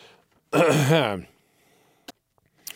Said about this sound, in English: …, clearing his throat and beginning the evening's story.